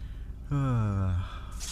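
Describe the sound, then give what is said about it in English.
A drawn-out, voiced intake with a falling pitch, like an 'ahh' building up, ends in a brief, hissy burst of a sneeze. “Bless you again,”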